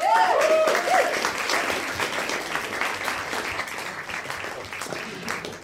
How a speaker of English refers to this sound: Ladies and gentlemen, a very, very good friend of mine, housemate, impresses everybody that she ever meets. I love her dearly. I'm absolutely certain that you will too. A big round of applause for my dear friend,